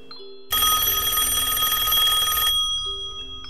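An old-style telephone bell rings loudly in one sustained burst of about two seconds, a harsh metallic trill, with quiet background tones before and after and no one speaking.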